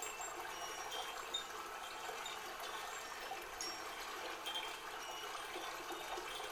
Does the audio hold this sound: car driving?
no